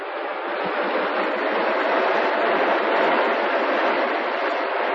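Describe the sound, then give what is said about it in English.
A car speeds along the road to Eastwood at night, its engine and road noise forming a loud, steady rushing roar that holds constant throughout, with no voices. “A car traveling fast along the road to Eastwood.”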